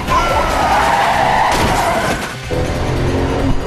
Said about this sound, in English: Jeep swerves around a yellow cab, causing it to spin and block the road. Jack sees it blocking his path and slams into it.